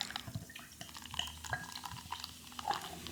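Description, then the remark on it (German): A very cloudy orange beer pours into a glass in a steady, soft stream, with small gurgles, splashes and a faint fizzing hiss running throughout. Quiet overall, with no talking. “Ich gebe jetzt ein bisschen was ins Glas.”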